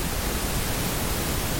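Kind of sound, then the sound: signal or alarm, pink noise test signal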